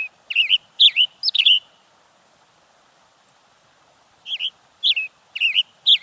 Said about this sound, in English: A male western tanager chirps loudly from the branch of a Douglas fir.